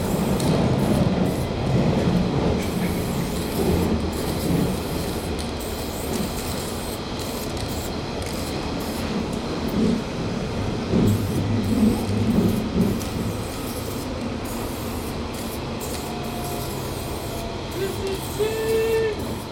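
A train rolls steadily along the rails with a loud, continuous rumble and clatter, and a few brief high wheel squeals ring out near the end.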